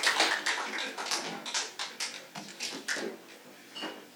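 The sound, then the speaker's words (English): An audience at a storytelling show claps for a storyteller in a loose, steady patter of sharp, bright hand claps that rise at the start and then continue evenly before thinning out at the end. No one speaks. “Another kind round of applause for Chief of Neurosurgery,”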